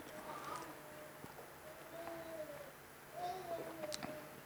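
Faint birdsong with a few drawn-out, sliding whistles and a brief high chirp near the end, heard softly over low background noise.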